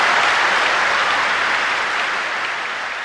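crowd, audience cheering and applauding

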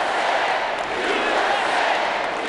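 crowd, crowd chanting

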